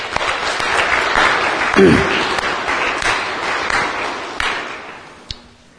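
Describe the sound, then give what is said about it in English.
A church audience claps steadily for the Ruritan club on Ruritan Sunday for several seconds, a dense wash of many hands that slowly thins and fades out, with a faint ping and a few stray claps near the end. “But for the moment, one more time, let me have a round of applause for the Ruritan.”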